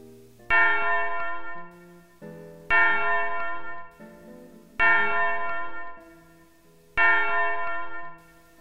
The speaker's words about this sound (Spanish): La campana limpia su duro golpe sonoro y nos amartilla los oídos y nos aprieta el corazón.